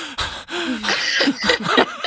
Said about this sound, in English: I don't think anyone likes to hear ourselves breathing like that. The reality was awful.